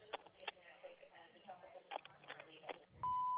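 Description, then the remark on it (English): A muffled, phone-quality voice talks briefly, then a single loud, steady electronic tone sounds at the end: an answering machine beep that holds without wavering. “Please leave your message at the end of the beep.”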